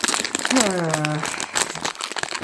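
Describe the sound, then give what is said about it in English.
Crinkly plastic wrapper of a wine gum sweet packet rustling for a couple of seconds as someone reaches for another wine gum, broken crackles and crunches, with a brief voiced sound from someone partway through. “Sorry, if there's rustling, I'm going to go for another wine gum.”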